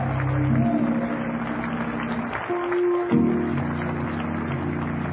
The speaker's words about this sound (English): Would you do something for me before you're seated? Would you clap your hands unto the Lord and magnify Him? Would you do that? Rejoice in Jesus.